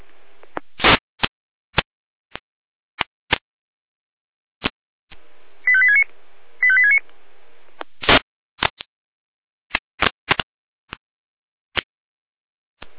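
Two brief bursts of high, pulsing electronic tones over a hiss of radio static, surrounded by scattered sharp clicks and crackles, with no voices: radio alerting tones from the Jena dispatch centre calling out fire brigade units for a storm situation.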